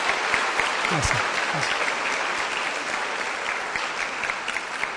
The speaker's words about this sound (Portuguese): Tem uma coisa muito especial, irmãos. É que essa semana foi o aniversário dela, não é? Vamos dar uma outra salva de palmas, então, né?